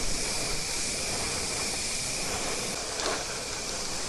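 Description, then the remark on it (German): A spray paint can hisses in one steady, unbroken burst for about four seconds as graffiti is sprayed onto a wall during a graffiti course, a bright airy rush with a brief flare just before the end and no voices. “Dann haben wir sie auf eine Wand gesprüht.”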